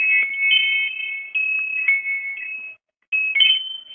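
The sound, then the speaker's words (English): Wind chimes in a house ring in high, sustained metallic tones that overlap and shift unevenly, with a short pause before the ringing resumes. Fairly loud, with no voices. “Do you guys like wind chimes?”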